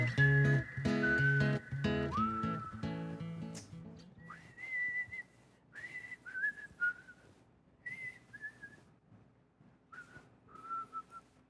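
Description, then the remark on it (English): A tuneful whistled melody opens a Sunday service, playing a song's opening phrase over a full musical backing, then continuing as a series of short, clear whistled notes and glides with softer accompaniment underneath. “Second Sunday in a row, we started out with whistling.”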